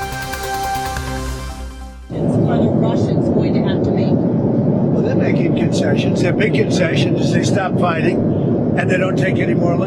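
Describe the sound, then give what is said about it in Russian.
A loud, steady roar of aircraft engines fills the cabin of the US presidential plane as the president talks with journalists over it, the drone starting abruptly after a brief tonal passage and continuing unchanged to the end. “Это фрагмент общения президента США Дональда Трампа с журналистами на борту его президентского самолета.”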